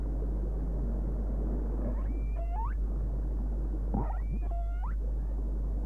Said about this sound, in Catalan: L'aparell instal·lat dins la rèplica comença a emetre els sons de l'orca. L'aigua transmet el so 4 vegades i mitja més ràpidament que l'aire. Els sons arribaran immediatament als fins òrgans acústics dels dofins.